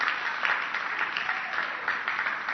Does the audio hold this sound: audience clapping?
yes